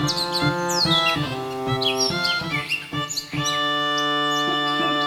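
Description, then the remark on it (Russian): A thrush chirps in quick, bright bursts over sustained orchestral music, its rising calls repeating throughout, clear. “Вот ключ, а вот дверь, а вот и дрозд.”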